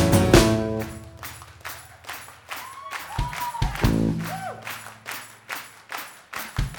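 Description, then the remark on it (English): A single person claps out a steady, crisp rhythm, sharp hand claps falling roughly twice a second, with some low tonal, voice-like sounds sliding underneath in the middle. “Okay, clapping solo.”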